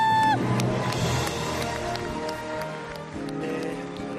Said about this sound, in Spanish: Como escuchas, fue vitoreado, fue aplaudido tras su alegato del mal llamado derecho de una muerte digna.